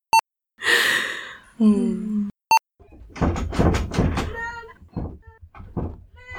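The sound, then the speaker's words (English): Two sharp, isolated knocks by a child on a door, a couple of seconds apart, with breathy sighing sounds between them and voices talking afterward. “Hold on, there's a kid knocking down my door.”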